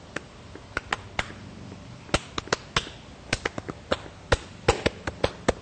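A quick series of sharp, dry knocks as a foot taps out a beat, fairly loud, in an uneven rhythm that speeds up and clusters toward the end, with no voices.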